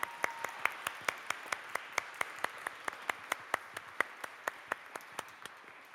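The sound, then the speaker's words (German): Steady, evenly spaced hand clapping, about four claps per second, continuing for several seconds at moderate volume with no talking. It sounds like a small audience clapping in time, applauding the helpers. “Vielen, vielen Dank für unsere Helfer. Einen großen Applaus bitte.”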